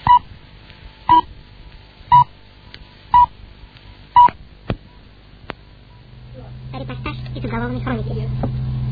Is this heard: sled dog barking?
no